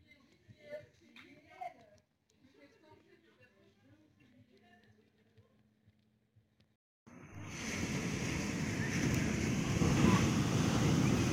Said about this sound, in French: Le bruit des vagues est impressionnant. Quand ça vient s'abattre sur la plage, là comme ça, ça fait un tonnerre. C'est impressionnant.